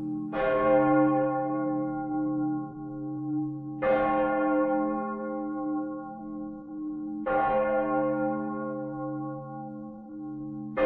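Three slow, heavy strikes of a church bell, each ringing out with a rich, lingering hum that overlaps the next, loud and resonant with no voices present.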